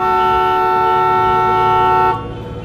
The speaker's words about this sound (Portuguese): aquele goblin de moicano e aquela face dele sempre aparentemente chateada, lhe encarando enquanto dá mais uma buzinada.